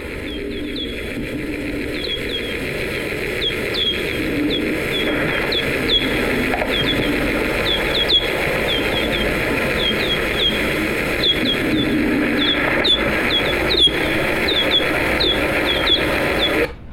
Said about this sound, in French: Alors on entend les chauves-souris qui dominent, et derrière un grésillement qui est dû à des insectes.